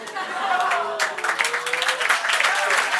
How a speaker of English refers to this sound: I'm clapping for the pun.